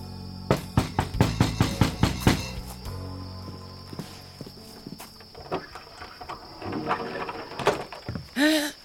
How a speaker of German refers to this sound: Dort klopfen nämlich Isabel und Sarah an die Hütte von Frau Meisenpretzel.